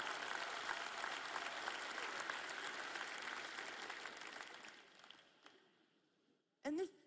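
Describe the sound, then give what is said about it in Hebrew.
A large conference audience applauds and cheers in a steady, dense wash of clapping that gradually thins and fades, followed by a short burst of someone speaking at the very end. “אתם מוחאים כפיים, מעודדים, זה נהדר.”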